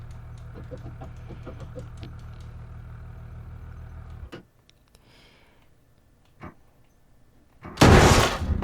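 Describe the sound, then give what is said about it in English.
A damaged car engine runs at full throttle with a rapid ticking rhythm, then abruptly cuts out into near silence. A dull thud follows, then a loud, violent crash bursts in at the end as something flies out of the engine. “That time it stuff flowed out. I don't know what exactly flew out.”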